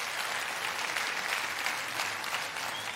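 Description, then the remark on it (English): A crowd at a church service applauds in answer to a question about who wants to see more of God in the culture, a dense wash of many hands clapping at once that holds at an even, fairly loud level throughout without rising or fading. “Just by applause, who wants to see more of God in our culture?”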